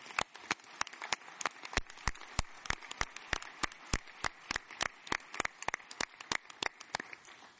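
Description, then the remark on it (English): Scattered audience applause at a conference, thanking the event's sponsors: sparse, sharp hand claps in an uneven patter, a few per second, continuing steadily for several seconds with no talking over it. “Please join me in a round of applause for all of these sponsors.”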